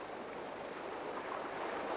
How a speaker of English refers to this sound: Boat, push off into the water. It is a small boat. The sea so still. An early Sunday morning sea, perhaps. That perfect light blue sky and the water sound so audible.